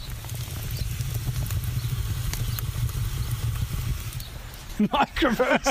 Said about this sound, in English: So if you look at that now. The pizza is looking good. Just listen to this sizzle.